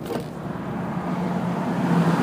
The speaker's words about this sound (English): That, my friends, is the sound of danger. The sound of a motorcycle? Oh my God. It's really, really dangerous right here.